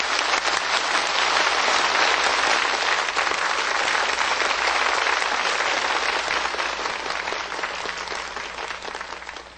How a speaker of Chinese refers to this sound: 好，就让我们以最热烈的掌声恭请师父开示。